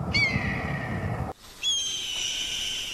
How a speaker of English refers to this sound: This misconception was created during the early days of Hollywood when some unknown sound designer started replacing an eagle's chirps with the screech of a red-tailed hawk.